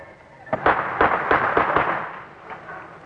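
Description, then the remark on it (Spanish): A rapid series of sharp, booming tear gas launcher shots fired by police at student protesters, about seven bursts in quick succession then a couple more spaced out, echoing over a noisy outdoor crowd ambience. “Se escuchan disparos de gases lacrimógenos.”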